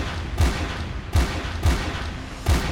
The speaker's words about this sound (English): A few seconds later, you hear five gunshots.